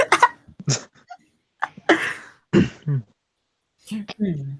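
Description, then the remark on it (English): Several abrupt hiccups jump out, spaced unevenly with short breathy pauses between them, mixed with brief murmured vocal sounds. “I had hiccups.”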